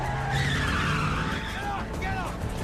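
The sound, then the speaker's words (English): Tires skid and screech loudly as a driver tears away at speed in an SUV, a continuous wavering squeal over a roaring engine, with possible voices faintly underneath. “Outside, Frank knocks over the doorman and jumps behind the driver's seat in the SUV.”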